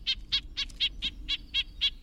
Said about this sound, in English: Here's the smaller red-breasted nuthatch's nasal yank, yank.